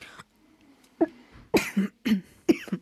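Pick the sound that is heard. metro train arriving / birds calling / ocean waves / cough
cough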